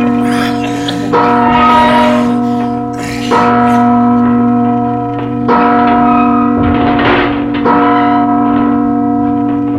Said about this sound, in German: Magnus' Glocke erzielte eine ungeheure Wirkung auf die Bewohner von Magnusstadt.